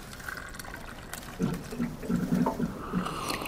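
A water cooler gurgles, a run of deep bubbly glugs as liquid fills, over a faint steady trickle and room hiss, with no voices.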